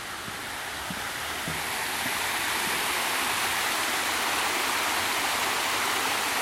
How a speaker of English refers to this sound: So we've got a big pond. We're going to go over a small weir. Try and get some of the ambience of the flowing water.